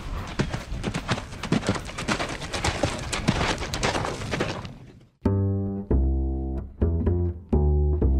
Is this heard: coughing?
no